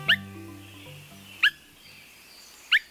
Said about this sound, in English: When Swainson's thrushes first returned to nest in the woods of the West, or the northern states in Canada, they announced their presence with subtle calls. Limpid whit or wink sounds.